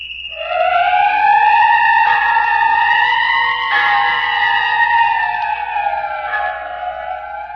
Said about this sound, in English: Don't you hear the whistle?